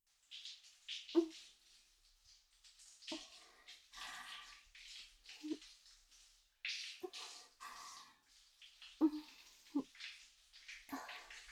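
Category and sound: household object, shower water running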